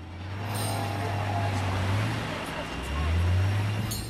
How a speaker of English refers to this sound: He notices an unusually smart car cruising along the curb and walks off in the same direction.